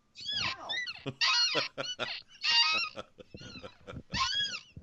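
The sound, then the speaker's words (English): An office chair creaks and squeaks over and over as it is rotated, a string of high, strained, honk-like squeals in uneven bursts with no talking. “It's a little squeaky.”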